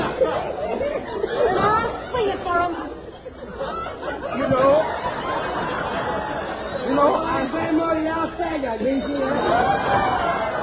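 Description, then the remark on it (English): A crowd chatters continuously, many overlapping voices blending into a steady hubbub with a few brief laughs, no single voice standing out, holding an even level for the whole stretch. “there's a crowd gathering.”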